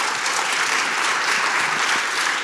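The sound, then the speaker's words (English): Sustained audience applause, a dense steady patter of many hands clapping at an even loudness throughout, with no voices standing out. “Let's ask some questions, and if y'all can applaud that, sure.”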